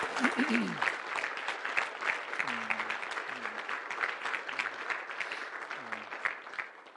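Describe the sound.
A church audience applauds in appreciation of a man who has just prayed, steadily for about seven seconds, a dense, even wash of clapping that holds a constant level, with a few low voices calling out underneath.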